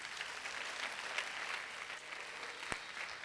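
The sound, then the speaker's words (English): A church audience claps their hands as a clap offering for Jesus after a prayer of salvation, in sustained, dense applause, many hands blending into a steady crackling wash with one sharper clap standing out near the end. “Give her the best clap offering.”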